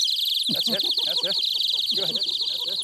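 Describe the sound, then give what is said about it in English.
A songbird whistle is blown hard, giving a continuous high, rapid warbling trill that runs loud from start to finish while a voice talks underneath it. “That's a songbird whistle.”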